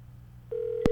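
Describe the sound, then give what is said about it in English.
Over a low background hum, a steady telephone line tone starts halfway through and holds, with a short sharp click near the end, like a call being dialed and ringing. “Is the phone ringing?”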